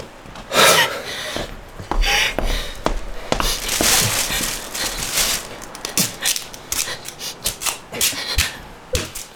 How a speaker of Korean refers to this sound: 방충망 귀퉁이 찢겨진 거 붙이려고요. 이 방충망 테이프 붙이면 벌레가 덜 들어갈 거예요.